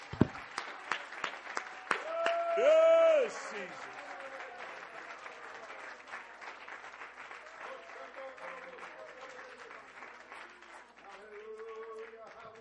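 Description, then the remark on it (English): A church audience claps their hands to Jesus in sustained, dense applause lasting the whole clip, while voices shout out over it, loudest in a brief burst of cheering near the start. “Would you clap your hands to Jesus one more time?”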